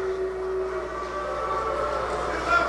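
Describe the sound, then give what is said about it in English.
A crowd in Indiana boos a presidential hopeful as he is greeted, in a low, sustained drone that holds steady for a few seconds, swelling slightly toward the end, with no clear voices rising above it. “Little smattering of boo.”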